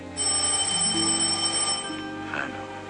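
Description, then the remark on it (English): A telephone rings with a steady, continuous bell tone, bright and fairly loud, sustained for nearly three seconds with no voices. “Rita goes to the phone and picks up.”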